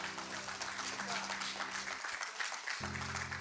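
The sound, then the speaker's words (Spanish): A church audience claps for Christ in a dense, steady wash of applause throughout, over a sustained low keyboard or organ chord that drops out briefly near the end before returning. “Dale un aplauso a Cristo, amado.”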